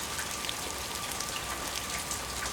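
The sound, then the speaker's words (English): Steady evening rain falls outside the front door of a house, a dense, even hiss of countless drops pattering on surfaces at a constant moderate level, with no voices. “This evening, I came out the front door of the house and it was raining.”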